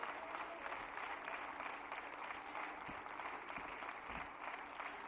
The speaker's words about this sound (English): Thank you for that clap, but I want to go back to last week.